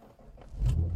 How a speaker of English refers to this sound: Okay. See, that doesn't sound like my car when it starts. No. It sounds actually a little closer to the dump truck.